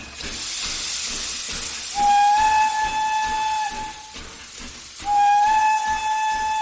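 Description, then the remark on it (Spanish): A steam train, the Orient Express on its route between Istanbul and Paris at night, hisses steadily while its whistle blows twice, each long tonal blast rising sharply and holding before cutting off, with rhythmic chuffing underneath. No voices. “Era uno de los trenes más célebres de su época.”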